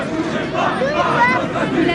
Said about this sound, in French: À son arrivée, il est de nouveau acclamé par la foule.